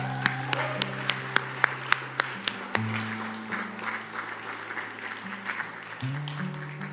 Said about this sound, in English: Let's stand to your feet this morning. Let's give Jesus a really, really good hand clap. Come on.